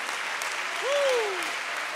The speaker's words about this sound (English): Come on, somebody clap your hands once again. Somebody give God praise here today.